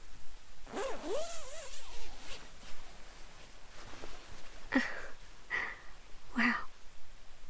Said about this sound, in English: Now, zip us back up for me.